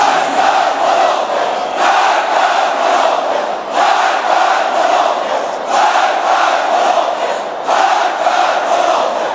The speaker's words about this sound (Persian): فقط بشنوید غروب عاشورا فریاد مرد افکنه اهل ولایت رو، مرگ بر منافق.